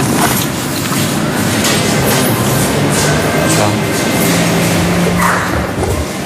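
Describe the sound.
An RER commuter train rumbles loudly and steadily at a station platform, with a rattling clatter and a brief high squeal near the end. A voice speaks briefly under the noise.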